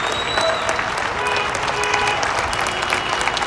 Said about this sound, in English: But every day, at 8 o'clock in the evening, people come out of their homes and applaud.